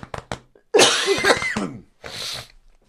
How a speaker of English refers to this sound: I'm tired of this dry, racking cough.